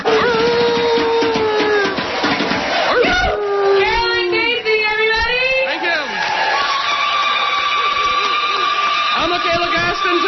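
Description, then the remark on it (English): An audience at the end of a summer solstice talk barks and woofs together in imitation of dogs, a dense overlapping chorus of voiced yelps with rising and falling pitch that swells loudly in the middle and carries on throughout. “And we say, Coyote says, one woof will seal the deal.”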